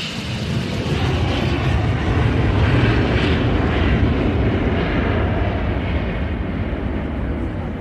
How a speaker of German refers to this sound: Da, Großvater, sieh mal! Sie rast immer schneller über die Startbahn. Und jetzt? Jetzt hebt die Maschine ab.